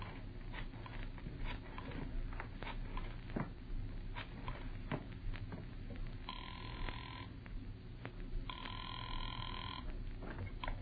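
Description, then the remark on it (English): A telephone rings in two steady electronic bursts over a low, rumbling background, with scattered clicks and taps earlier as if a number is being dialed. “As I got to the phone, I knew that whatever else he was, the old sea dog was no liar.”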